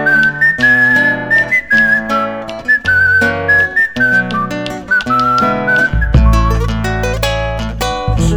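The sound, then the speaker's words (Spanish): A whistled zamba folk melody in a slow, lilting triple rhythm, carried in flowing phrases over steady guitar accompaniment, clear, with no one talking. “Porque soy igual, siempre ando silbando por la calle.”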